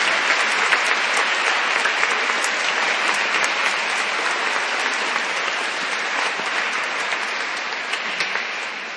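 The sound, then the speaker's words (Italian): An audience applauds warmly after a baptism, welcoming the baptized children into the community, many hands clapping in a dense, steady wash for the whole stretch, holding loud and even before easing slightly at the end. “E possiamo fare anche un applauso a questi bambini che accogliamo la nostra comunità.”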